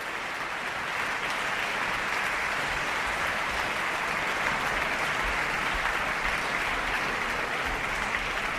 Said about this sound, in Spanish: Continúan los aplausos del público presente en este concierto de la temporada de abono de la Orquesta Sinfónica y Coro de Radio Televisión Española, que Radio Clásica de Radio Nacional de España les ofrece en directo desde el Teatro Monumental